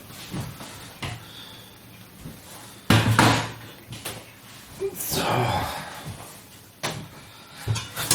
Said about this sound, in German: Kartoffeln abgießen. Zack, zapp. Macht halt ein bisschen Krach.